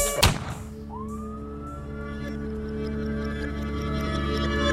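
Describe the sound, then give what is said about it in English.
A sharp thump, then a police siren starts wailing, its tone sweeping upward and holding over a steady low droning background. No one speaks. “When you hear them sirens coming, I can hear them sirens coming.”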